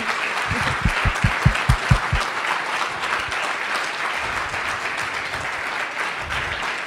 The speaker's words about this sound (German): Erst einmal vielen Dank für alle, die mitgemacht haben und die vielleicht nicht zum Zuge kommen. Dicken Applaus an alle.